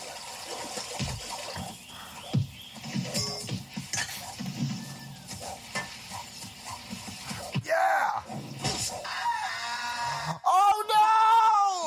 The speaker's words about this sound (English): Death scream was amazing!